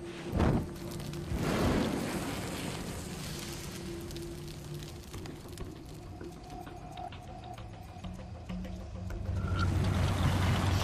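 A car engine runs steadily, a continuous low rumble with a faint whine, joined by a brief thump near the start and a soft beeping tone later.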